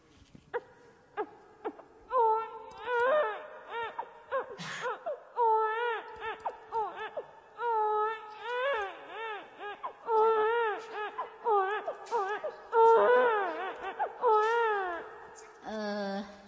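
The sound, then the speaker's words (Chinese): A voice imitates a newborn baby boy crying, with a series of wavering, wailing cries in short bursts, fairly loud, with brief breaths between them. “我先学一下这个刚出生的小男孩的哭声啊。”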